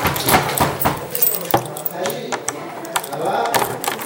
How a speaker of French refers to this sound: Fermez la porte là, à clé. Dans quel état d'esprit vous fermez cette porte ?